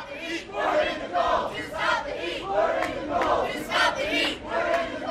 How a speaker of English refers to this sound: Something even odder, actually, when we arrived at the summit centre this morning, another bunch of people shivering in their underpants outside the summit, shouting, "We're in the cold to stop the heat."